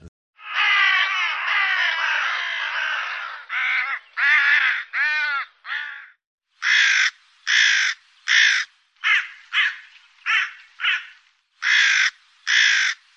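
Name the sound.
hooded crow cawing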